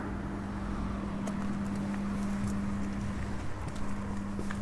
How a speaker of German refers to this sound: Natürlich höre ich mich selbst laufen.